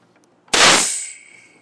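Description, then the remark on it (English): A soda maker releases its gas as the bottle is pushed back with a lever after carbonating water: a sudden, loud burst of hissing gas that fizzes and fades over about a second, leaving a thin high whistle. No one speaks. “Now when I push this bottle back with this lever, you're going to hear, hopefully, I'm going to bring the phone over here so you can definitely hear it.”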